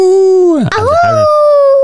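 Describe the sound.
A child's voice imitates a wolf howl: a loud, sustained tone that dips low, wavers briefly, then rises and holds steady in a long, drawn-out call.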